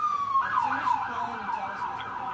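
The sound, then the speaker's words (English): Several LAPD emergency vehicle sirens wail together as all available units respond to an emergency, their overlapping tones sliding up and down around a steady high pitch, loud and continuous over a low rumble of traffic. “And man, he's a 12 alarm emergency. Yeah, it's... all available units are going over there to show up whatever it is.”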